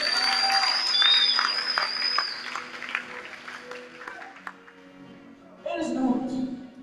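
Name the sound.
audience clapping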